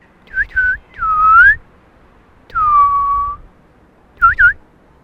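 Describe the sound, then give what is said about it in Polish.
A person whistles an imitation of a bird call: quick double chirps, a long rising note, a long falling note, then another fast double chirp. The whistling is clear and fairly loud. “Kowalik ma bardzo bogatą gamę pogwizdywań różnego rodzaju.”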